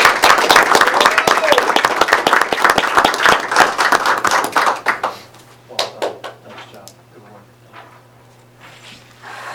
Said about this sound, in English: But if we would, let's give Peyton a round of applause.